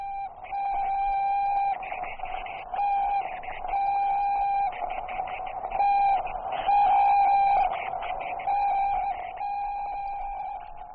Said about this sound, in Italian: All'interno del satellite che sta trasmettendo questi segnali ci sono degli esseri viventi, topi, mosche e 2 cani, Ciolca e Musca, protagonisti di un volo che non avrà ritorno.